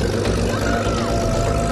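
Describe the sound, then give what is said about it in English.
The paddle wheels of a twin-wheeled boat racing on a lake spin strongly and churn steadily through water, a loud, continuous rushing wash with a mechanical hum running underneath, unbroken throughout. “The wheels are spinning strongly, really shifting water.”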